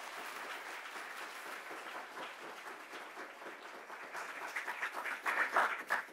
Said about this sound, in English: But apart from that, I'll hand over to Lord Jones. So please, everyone, a massive round of applause.